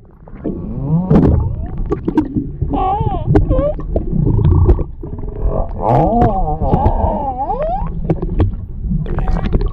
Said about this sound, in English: How about this guy actually saw whales, had an underwater camera that was able to lower into the water, and caught humpback whales vocalizing. To me, this is really cool.